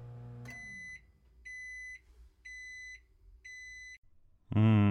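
household object, microwave oven beeping

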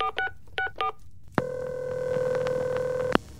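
sound effect, telephone number being dialed

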